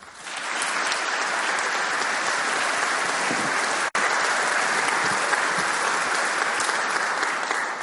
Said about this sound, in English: Well, I wish you hadn't gotten those applause out of your system, because I never know what people are going to do after I'm finished speaking.